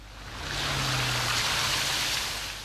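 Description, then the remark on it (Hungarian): Steady, full rushing of the flooded Sajó river flowing over a road between Putnok and Borsodbóta, a broad churning wash that swells in and holds loud, with a low engine-like hum underneath early on. No voices. “A megáradt folyó itt is átfolyt az úton.”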